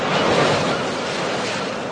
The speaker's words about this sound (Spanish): para que las únicas olas que escuches sean las del mar.